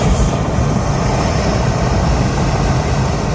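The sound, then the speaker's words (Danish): A loud, unbroken roar of hot air blasting with great force into a sheet-like hot air balloon envelope at the Danish hot air balloon championship, heavy low rumble with a hissing rush on top, holding steady for the whole stretch without any voices. “Når varm luft blæser med stor kraft ind i det her lagenlignende ballonhylster.”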